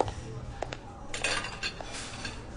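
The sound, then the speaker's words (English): Ceramic dishes and a bowl clink together in a few sharp, bright knocks over a steady low background hum, with quieter scraping between the taps. “Done with that bowl yet?”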